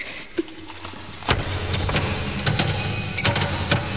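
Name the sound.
door being shut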